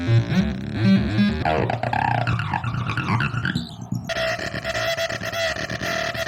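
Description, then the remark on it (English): Harsh, buzzy distorted tones sputter and warble, then abruptly switch to a dense, steady wall of gritty digital noise with a droning pitch: digital threshold distortion produced with laser components. No voices, just loud processed electronic sound. “I now have a ton of new laser components to play with, which I have accidentally discovered makes incredible sounding digital threshold distortion.”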